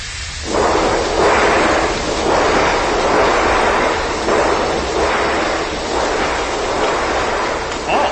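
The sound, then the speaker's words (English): Loud, rolling thunder roars for several seconds, surging in repeated heavy swells about once a second over a constant rumbling wash, with no voices. “There's lightning outside! And thunder! I said thunder! Hear that?”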